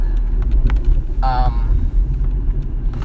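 A short, high-pitched brake squeal cuts through steady low traffic rumble as a nearby car stops suddenly, lasting about a third of a second over the constant road noise.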